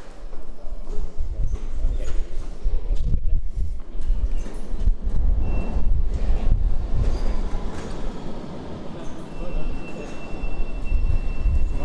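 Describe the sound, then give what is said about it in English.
An underground subway train rumbles steadily along the tracks between stations, with heavy low-end roar, rhythmic clacks from the rails and faint high-pitched squeals, loud throughout with no voices. “Now that we've done the subway and the underground.”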